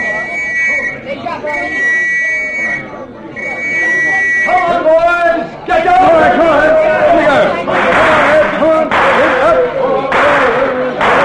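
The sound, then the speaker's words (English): A street crowd, held back by a constable from Wood Street, chatters and shouts in a loud, dense babble of overlapping voices, preceded by three sharp, steady whistle blasts at the start. “All right, Constable, keep that crowd back.”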